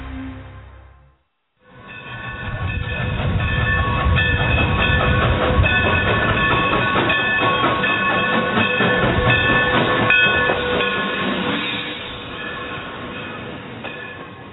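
A train rumbles steadily along the rails, loud, with metallic ringing tones and faint rhythmic clacks, before fading slightly at the end. No one speaks.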